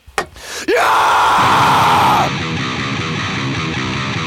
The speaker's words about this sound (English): Give me a scream